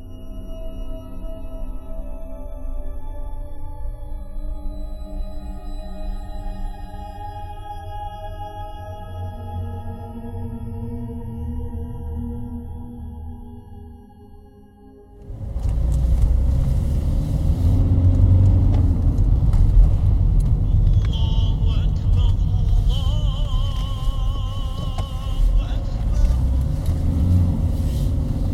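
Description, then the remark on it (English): A sustained, melodic chanted call to dusk prayer plays from a car radio over a low engine rumble, then gives way halfway through to a louder, rougher wash of road and engine noise. “The call for dusk prayer can be heard on the car's radio.”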